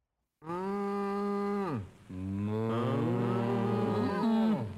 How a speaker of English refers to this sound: This first one that we're going to play for you involves cows talking to you.